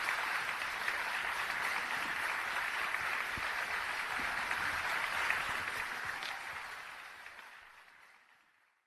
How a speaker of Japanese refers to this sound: 皆様もう一度大きな拍手をお願いいたします。